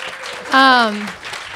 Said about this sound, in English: So what an incredible night. Can we just like have a round of applause for everybody so far?